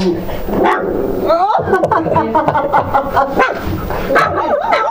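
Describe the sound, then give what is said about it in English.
A dog barks and yips repeatedly, a run of sharp, excited bursts with whiny, wavering tones mixed in, while voices carry on in the background. “You're barking at me, aren't you?”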